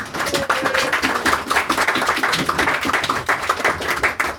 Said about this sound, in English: So could I please have a lovely big round of applause for Paul Cornell?